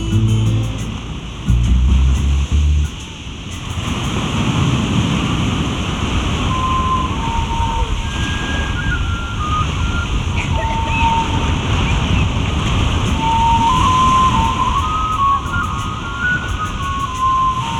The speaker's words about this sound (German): Hörst du durchs offene Zelt, wie leise ein Wind durch gedämpfte Dünen weht?